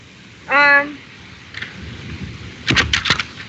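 Wind blowing outdoors, a low rumbling noise with a few rough, buffeting gusts near the end; a brief vocal exclamation sounds early on.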